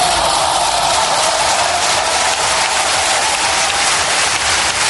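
applause in parliament

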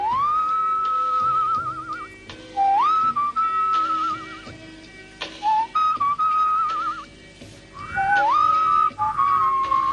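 person whistling a tune

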